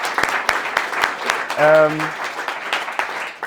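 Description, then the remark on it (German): Dense crowd applause given to the audience members themselves, a steady rush of many hands clapping, with sharper individual claps standing out and a brief whoop or cheer rising above it midway. “Deswegen will ich erstmal einen riesen dicken Applaus an euch.”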